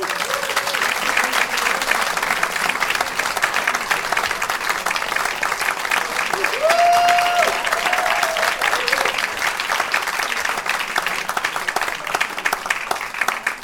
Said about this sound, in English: Could you give them a big round of applause?